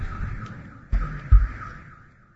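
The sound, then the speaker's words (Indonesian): A car alarm wails in a steady, rapidly warbling up-and-down tone that slowly fades, with a couple of dull low thumps partway through and no one talking. “itu mobil siapa ya? Yang merasa punya mobil. Bunyi itu pengen pulang kali.”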